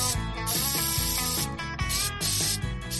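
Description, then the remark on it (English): Several hissing bursts from a Can-O-Man aerosol can spraying spray-on hair, fairly loud, separated by brief pauses, with background music playing underneath. “But no problem, I've got my trusty Can-O-Man spray-on hair.”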